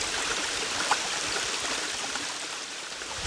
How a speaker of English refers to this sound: This is a little creek that runs right through Dolly's childhood home.